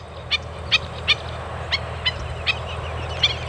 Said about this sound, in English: It's surprising, but birds still come to the sea. Even though thousands of brown and white pelicans died here from eating bad fish, this is a stop for birds on the Pacific Flyway, a migration route